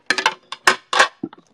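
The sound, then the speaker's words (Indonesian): Freshly washed plastic plates at home clatter and knock together in a quick, irregular series of light, hollow clacks, with brief pauses between them and no voices. “Aku di rumah pakai piring ini aja sih guys, pakai piring plastik gitu.”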